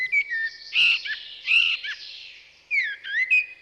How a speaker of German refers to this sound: Das gilt ebenso für die Amsel, die man ungefähr ab einer Dreiviertelstunde vor Sonnenaufgang hören kann.